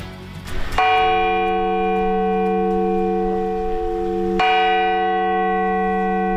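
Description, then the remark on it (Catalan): The bell of the town hall clock (Cort) in Palma strikes twice, a few seconds apart, each deep, resonant clang ringing out with a long sustained hum that carries into the next. It sounds fairly loud, with no voices. “té un gran protagonista en Figuera, el rellotge de Cort a Palma, que ja s'ha posat a punt amb una revisió minuciosa”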